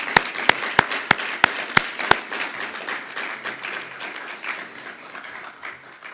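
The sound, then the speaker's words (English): An audience applauds, a few sharp, evenly spaced claps standing out at the start over a steady patter of scattered clapping that slowly thins and fades. “I've been in stadiums where people came out and got a curtain call and got more claps than that.”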